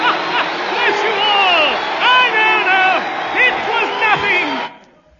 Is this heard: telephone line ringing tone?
no